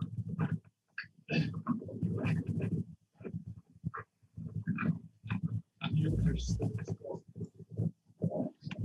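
A pig grunts and snorts steadily while eating goat droppings, with repeated rough, low grunts and bursts of snuffling at an uneven rhythm, fairly loud.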